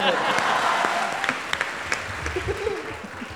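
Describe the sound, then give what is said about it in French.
An audience claps steadily for a female contestant being welcomed onto a game show, a dense wash of many hands filling the whole clip, with a few sharper individual claps standing out toward the end. “On l'applaudit bien fort, c'est une candidate,”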